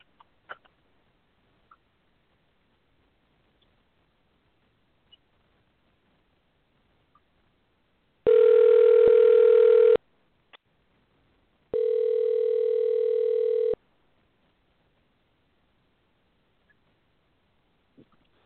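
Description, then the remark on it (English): A phone rings loudly and close by, two long electronic ring bursts separated by a short pause, with only faint clicks and near-silence around them and no talking. “Hold on, this might be him calling me back.”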